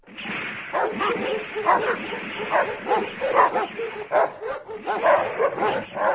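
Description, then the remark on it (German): Several dogs bark and yip in a continuous, overlapping chorus across a village, with occasional whimpering mixed into the steady commotion. “Überall im Dorf bellen die Hunde und ihre Angst nimmt zu.”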